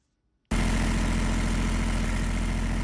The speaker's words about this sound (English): A machine at Junubi Soap Company in Juba foams soap bars out of palm oil and water-based products.